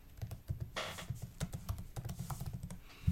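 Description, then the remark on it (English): Rapid, steady typing on a computer keyboard, a dense run of crisp key clicks with uneven rhythm and no voices over it. “I hear the typing. Yeah, you're typing away.”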